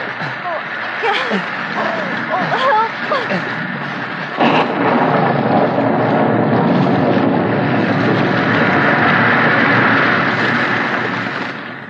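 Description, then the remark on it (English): A roaring storm wind effect, a tropical hurricane and cyclonic tornado combined roaring down a canyon, rushes steadily and loudly for the whole stretch, thickening after a few seconds, with wavering voice-like cries woven into the first part. “The storm was a tropical hurricane and cyclonic tornado combined, flooding creeks and canyons, spreading out, sweeping everything in its path, roaring on down the canyon, leaving death and destruction.”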